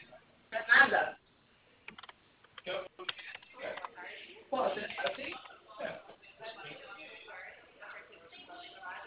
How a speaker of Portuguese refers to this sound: Tô digitando aqui, rapidinho.